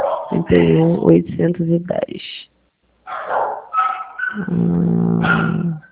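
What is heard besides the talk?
neighbor's dogs barking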